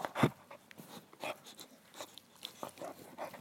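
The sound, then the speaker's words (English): A dog named Biff gnaws on a toy at a house in Washington, D.C., with irregular crunchy bites and soft grunts scattered through a few seconds, one louder snort near the start. “That's Biff chewing on a toy and grunting.”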